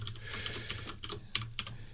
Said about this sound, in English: I'm logging in. You hear that typing?